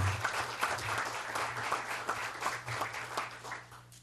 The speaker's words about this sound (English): So please welcome him and give him a very large round of applause for making that trip.